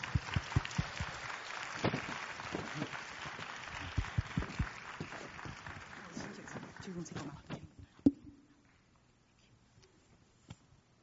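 An audience applauds steadily, a dense wash of many hands clapping that gradually thins and fades out after about eight seconds, leaving near silence with a few faint sounds.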